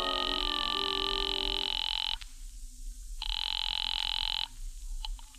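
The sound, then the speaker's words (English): A telephone ringing heard through the earpiece of a phone booth: two long, buzzy rings separated by a short pause, over a low, steady line hum, with no one talking, as a call rings through to the Cafe Tambourine. “I waited around the lobby for a while, then stepped into a phone booth and called the tambourine.”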